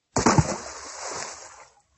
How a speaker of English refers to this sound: One day, a man went to get some water from a well. He held on to the rope to pull the water up, but slipped and fell down into the well with a splash.